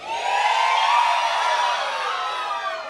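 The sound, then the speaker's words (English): A crowd in a room, on a count of three, lets out a loud, sustained group shout of "yee-haw," many voices blending into one bright, whooping cheer that holds steady for about three seconds. “It's basically shouting yee-haw.”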